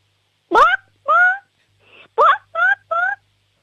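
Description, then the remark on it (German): A six-year-old girl from the state of Salzburg imitates a clucking chicken during a sound game, with two quick runs of short, bright squawking clucks and a brief pause between them. “Okay, und jetzt hätte ich gern, dass du mal gackerst wie ein Huhn.”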